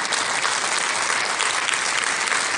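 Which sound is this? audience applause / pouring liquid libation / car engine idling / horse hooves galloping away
audience applause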